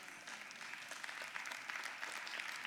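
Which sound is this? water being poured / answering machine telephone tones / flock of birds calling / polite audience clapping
polite audience clapping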